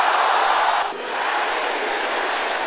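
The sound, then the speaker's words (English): The men of an audience shout the prayer "powers dragging me behind my divine level" together, many voices merging into a loud, continuous roar that dips briefly after the first second, then surges back and holds steady. “Can I hear the brothers here shouting this loud and clear?”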